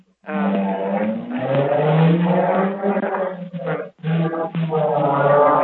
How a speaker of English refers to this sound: There's a lot of noise in the background again. Whoever's by the highway, mute your phone.